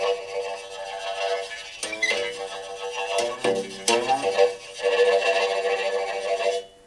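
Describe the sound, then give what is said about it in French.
A plucked string instrument played like a Vietnamese monochord, its notes swooping and bending in pitch over a sustained, ringing drone, with no voices. “Je peux l'utiliser un peu comme un monocorde vietnamien.”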